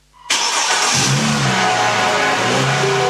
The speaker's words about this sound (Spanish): Este año, el motor de tu auto no solo te mueve a ti, también levanta a cientos de familias afectadas por los incendios forestales.